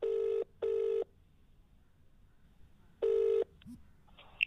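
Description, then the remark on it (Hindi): A phone call being placed rings out in a repeating pattern: two quick buzzing tones back to back, a pause, then another double ring starting, clear and steady with no voices. “तो कोशिश करते हैं, मैं उनको फ़ोन लगाता हूँ और हम लोग बात करते हैं उनसे एक बार।”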